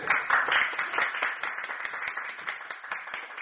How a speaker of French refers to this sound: Et ça, c'est formidable. Et bien, on les applaudit. Ouais.